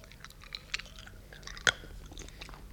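Children munch on a candy house made of sugar candy, with chocolate windows and cookie walls with marshmallow: soft, wet chewing punctuated by a few crisp crunchy bites, with one sharp, louder crunch standing out, and no talking.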